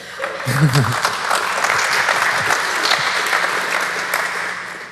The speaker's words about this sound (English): And I think he has earned a nice applause, because they are really working on this.